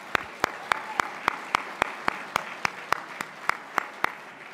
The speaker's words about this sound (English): How about another round of applause for Attorney General Moody?